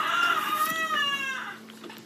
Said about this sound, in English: You guys, the crows will not stop. The crows, the rooster. I am. But they're crowing as she's like, look at these relics. How respectful is it to have a rooster crowing?